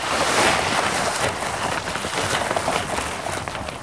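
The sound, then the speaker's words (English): Continuous wet, slushy hissing and swishing of dog sled runners going over overflow water, like melted snow cone, on a beautiful day of about 4 degrees at about 8 miles per hour, steady and fairly loud with faint crackles, and no voices. “Oh, we're going over some overflow, but it's not bad. It's just sort of like going through melted snow cone.”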